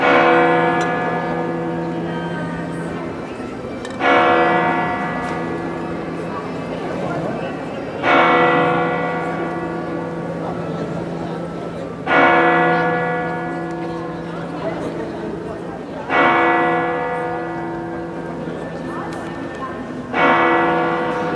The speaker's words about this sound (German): So klingt es, wenn in Santiago de Compostela hier direkt auf dem Platz vor der Kathedrale die Glocken der Kathedrale pünktlich zur Sendung von uns um 18 Uhr schlagen.